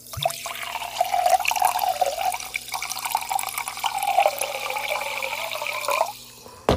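Topo Chico sparkling mineral water pours steadily into a glass for about six seconds, a continuous gurgling splash with a shifting tone, then stops abruptly with a faint clink at the end.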